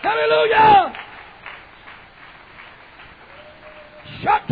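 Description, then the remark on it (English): An audience clapping their hands to praise the Lord in a steady, rhythmic beat, moderately loud, with a loud voice shouting over it at the start and again at the end. “Come on, clap your hands and praise the Lord in here.”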